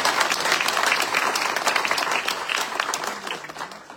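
A crowd applauds steadily for several seconds, dense overlapping claps forming a loud, even wash of sound that holds its level throughout with no voices standing out.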